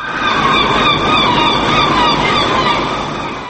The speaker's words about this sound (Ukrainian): Сьогодні в країні о півдні за місцевим часом хвилиною мовчання вшановували загиблих. В Осло було чути лише крики морських чайок.